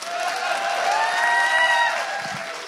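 On Easter day, a crowd applauds and cheers to welcome listeners following from far away, in a steady, sustained burst of clapping mixed with shouts and whoops, lasting a few seconds before easing slightly at the end.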